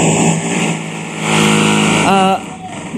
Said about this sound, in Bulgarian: тук тече ремонт в сградата, в която се намира студиото, така че ако чувате шума, да знаете, че той е предизвикан от ремонтните дейности.